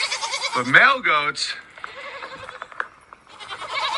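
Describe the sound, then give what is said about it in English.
A male goat lets out one loud, quavering bleat lasting under a second, followed by quieter background noise and faint murmuring voices. “But male goats like Chad here, what Chad does all day is he pees on his own face.”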